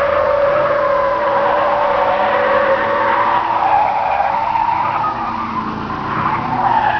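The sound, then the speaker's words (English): A Kingswood car brakes hard and takes a tight corner at 50 miles an hour on a private test track, its tires squealing loudly in a sustained, wavering screech for several seconds, with engine noise underneath and no one speaking. “Listen to the Kingswood brake to take it at an incredible 50 miles an hour.”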